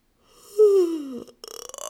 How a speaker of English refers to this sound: Sometimes those yawns are the easiest part of this podcast for me.